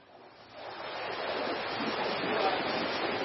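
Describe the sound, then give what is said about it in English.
Sea waves wash and rush steadily around a sailing ship, swelling up over the first half second into a continuous, fairly loud roar of surf with a faint windy hiss and no voices. “Imagine you've run away to sea on a sailing ship.”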